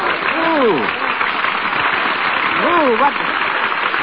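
crowd, audience applauding

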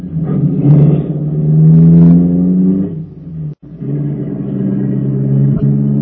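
vehicle, car driving off

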